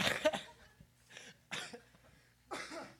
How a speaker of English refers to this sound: I'm not still laughing, I'm just coughing.